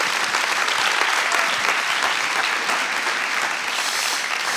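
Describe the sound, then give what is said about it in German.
Steady applause from an audience thanking someone for honestly sharing their story, a dense crackle of many hands clapping at a constant, fairly loud level for several seconds with no voices over it. “Deswegen ist euer Applaus, vielen Dank fürs ehrliche Erzählen.”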